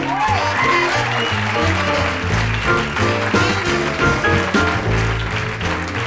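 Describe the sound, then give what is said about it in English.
Audience applause for pianist Michael Melvoin as he is introduced with the group, a steady wash of clapping that carries through the whole clip, mixed with a band playing a walking bass line and piano chords at similar loudness. “I'd like to introduce, please, give a warm round of applause for Michael Melvoin on piano.”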